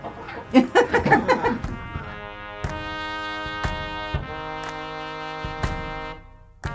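chickens clucking

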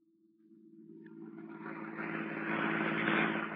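car driving

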